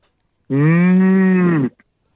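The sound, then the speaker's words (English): A single loud, drawn-out moo lasting just over a second, made by a caller's human voice imitating a cow to celebrate the 27th caller of the week, steady, with brief silence before and after. “Give us your best cow moo to celebrate our 27th caller of the week.”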